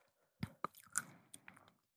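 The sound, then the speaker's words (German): Thorough chewing of food: a few sharp crunchy bites followed by softer, wetter mashing sounds in an uneven rhythm, with no talking. “Tipp, du musst es wirklich so lange kauen, bis es so fast ein Brei wird.”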